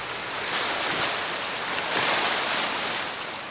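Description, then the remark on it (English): Sea waves wash steadily onto the seashore of a coastal fishing community in a broad, continuous hiss, swelling gently around the middle as a surge rolls in, with no voices present. “Sea waves hit back and forth down the seashores and fishermen mend their fishing nets.”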